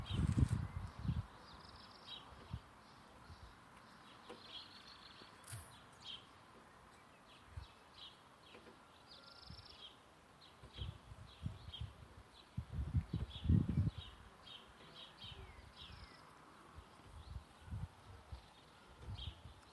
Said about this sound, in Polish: myślę, że też mogę zaprezentować wam, co prawda nie w stereo, ale co się u mnie dzieje na podwórku. Ćwierkają jakieś ptaki, z tego co słyszę, tylko nie wiem, czy to się wyłapie.